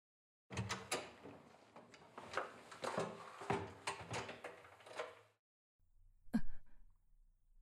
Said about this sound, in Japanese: ちょっと待っててね。今ドア開けるから。